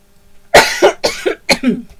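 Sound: coughing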